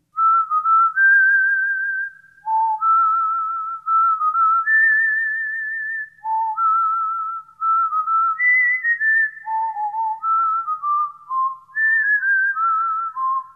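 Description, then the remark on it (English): A cheerful whistled tune carries on alone for several seconds, clear, pure notes hopping up and down in a bouncy melodic phrase, steady in volume with no voices. “That's a catchy little tune.”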